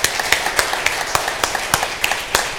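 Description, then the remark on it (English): An audience at a worship service applauds and cheers for a band, a music evangelism group, in a dense, steady wash of clapping, punctuated by sharp, evenly spaced claps roughly three or four times a second, continuing throughout. “Can you give a cheer for …?”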